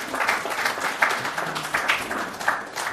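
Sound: audience applause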